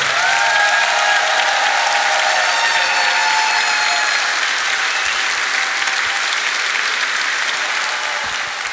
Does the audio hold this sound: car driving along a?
no